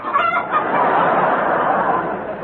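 A hen cackling sound effect used on The Goon Show as a pair of cackling drawers: a dense, continuous burst of rapid, scratchy clucking that holds steady and fairly loud for a couple of seconds before tapering slightly at the end.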